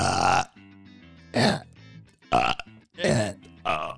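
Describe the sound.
Five loud burps trade back and forth in quick succession in a burping contest, each a short rough belch with quieter voiced murmurs and laughter-like sounds in the gaps between them.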